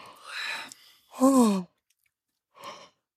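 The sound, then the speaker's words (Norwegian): A breathy yawn: a long airy inhale, then a drawn-out voiced exhale sliding downward in pitch, followed by a short soft breath after a pause. “Og hold munnen foran hvis du trenger å være på bussen, men liksom bli med og gjesp.”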